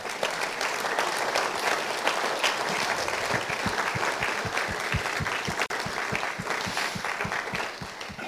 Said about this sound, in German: Danke, super. Gib Gott doch mal einen Applaus.